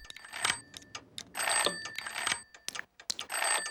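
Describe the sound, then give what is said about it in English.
A toy telephone being dialed over and over by Maggie, with bright electronic chirps and ringing tones in repeated short bursts, plus scattered plastic clicks between them. Fairly loud, with no talking. “The clock's second hand is stuck, Marge's needles won't stop clicking, and Maggie keeps on dialing.”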